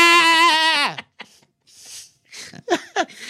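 A loud, drawn-out goat-like bleat that wavers and falls in pitch, followed by short breathy gasps and a few soft vocal sounds.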